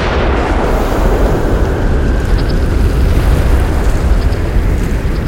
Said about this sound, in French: Et dans une effroyable explosion qui déchira les cieux paisibles de Ravnica, l'amphithéâtre se retrouva nimbé de flammes furieuses déchiquetant tout sur leur passage, et envoyant bouler le dirigeable de nos amis vers des cieux incertains.